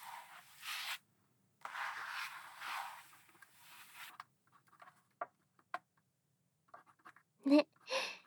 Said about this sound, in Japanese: てかさ、この紙の擦れる音とか。こういうシャーペンの音とか。 ずーっと聞いてると眠くなら？